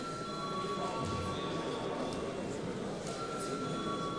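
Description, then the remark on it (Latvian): A voting bell in the Saeima rings steadily for the whole stretch as deputies are called to vote on sending a bill amending the aviation law to committee: a sustained, buzzing metallic tone at moderate volume with no pauses and no voices. “Lūdzu zvanu.”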